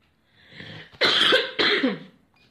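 Two loud, harsh winter coughs from a person with a slight cold, each a sharp burst followed by a rasping tail, preceded by a softer intake of breath, with no talking.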